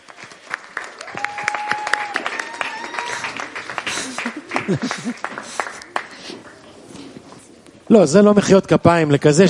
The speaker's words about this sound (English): That's not a good enough round of applause for such a song and such a play that you guys received. Wow, there's no words.